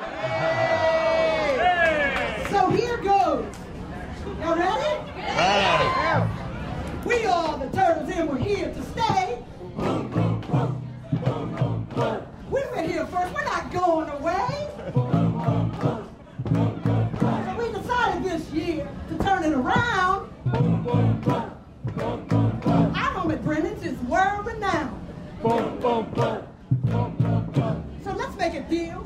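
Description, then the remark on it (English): A large crowd, children's voices among them, chants rhythmically along with a rap song, loud, the group vocals rising and falling in steady bursts with occasional cheers. “I've never rapped in my life before except to my children, and I can't say I'm good at it, but with the crowd participation, it worked out okay.”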